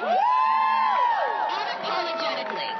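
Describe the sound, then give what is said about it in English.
A crowd cheers loudly, led by a long, high, rising and falling whoop, then settles into a steady roar of overlapping voices and shouts. “And what we have to understand is that why we are cheering and chanting today, that when we go home, that there is still so much more work to be done.”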